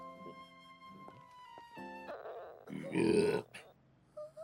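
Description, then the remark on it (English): Steady tones give way to a loud, gurgling, rumbling burst near the middle as a woman's stomach growls, then a few short quieter squeaks trail off at the end. “No, her stomach growled.”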